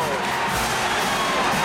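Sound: crowd cheering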